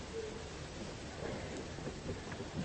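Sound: rain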